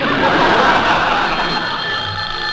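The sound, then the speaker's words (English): A French telephone's bell rings loudly and continuously, a steady metallic jangle that fills the whole moment with no voices over it. “Which one of us shall answer the phone, dear?”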